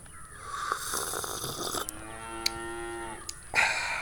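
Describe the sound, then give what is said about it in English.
Someone imitates a cow with one drawn-out, steady moo lasting over a second, fairly loud against a faint background hiss. “Give me some more. Moo.”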